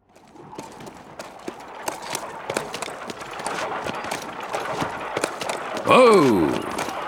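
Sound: horse hooves clip-clopping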